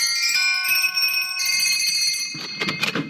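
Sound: door bell being rung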